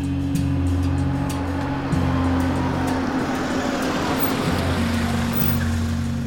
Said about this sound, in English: April 20th, 1968. A car pulls up to Pannone's Meat Market.